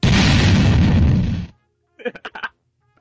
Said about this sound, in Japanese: 地雷が仕込まれてましたので、爆発しました。